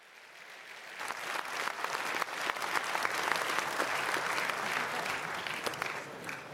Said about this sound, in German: Das war dein Applaus.